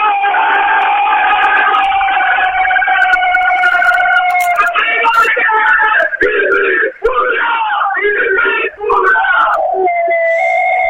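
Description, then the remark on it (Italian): A loud, dense crowd of voices sings and chants in unison at first, then breaks into rowdier cheering and shouting that rises and falls over the following seconds, never pausing, as Mozzecane celebrates its football promotion in the changing room. “Sentiamo i festeggiamenti”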